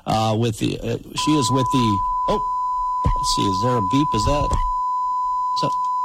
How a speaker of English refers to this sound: Yeah, you got to kill the Fox News update. I'm like, what is that beep coming from? All right. Always got to press that button, turn off the alerts there.